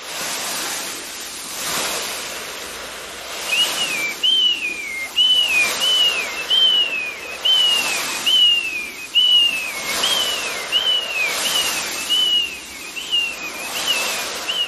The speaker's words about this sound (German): Es klang wie, wenn man am Meer ist und dann fliegen da halt so Möwen. Genau, das hast du gut erkannt oder ich bin froh, dass du es erkannt hast, weil das ist natürlich auch immer relativ schwierig, so ein großes Meer einfach so nachzumachen.